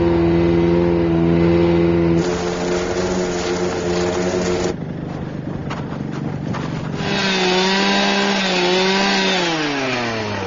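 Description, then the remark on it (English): A loud two-stroke engine drones steadily as a 36-inch power ice auger bores through black lake ice almost 36 inches thick, checking the ice for an aircraft landing strip, its pitch dipping under load and then climbing back up as it revs. “We're going right to the flute here. That's a 36 inch auger, so.”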